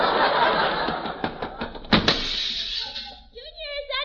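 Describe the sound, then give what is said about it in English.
A single heavy door slam bangs out midway through steady rustling noise, with a few lighter knocks before it; a voice starts talking toward the end. “Who else could slam a door like that?”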